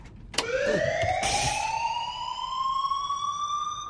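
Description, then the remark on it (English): A loud alarm, sounded from a truck cab, wails steadily across the vacant grounds of a steel mill, its tone sweeping upward and holding as a sustained siren-like blare, with a sharp clank at the start and a brief burst of noise early on. “The alarm rings out across the vacant grounds of the steel mill.”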